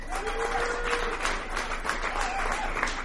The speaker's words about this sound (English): Another big round of applause